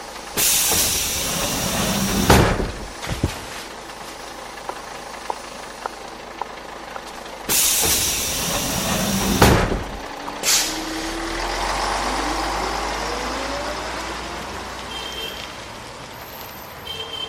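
bus stopping

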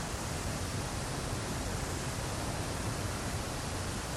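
waterfall cascading water

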